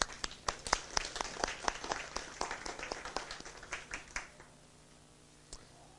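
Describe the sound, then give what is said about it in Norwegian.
A small group applauds, with sharp, uneven claps that thin out after about four seconds, leaving a single stray clap near the end. No one speaks. “Og LM hei, applaus.”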